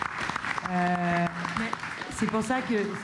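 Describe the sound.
A crowd claps steadily in a dense, even patter, with voices calling and cheering over it, including one drawn-out held note partway through.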